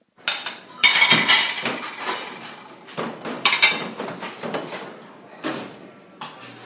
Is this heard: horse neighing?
no